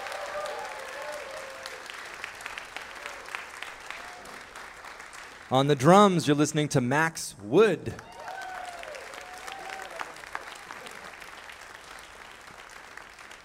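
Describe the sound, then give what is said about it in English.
Steady applause and scattered cheers from a concert audience as the band members are introduced, with a man's amplified voice briefly announcing the organ player over the clapping midway before the crowd noise carries on. “Please put your hands together and give a warm round of applause”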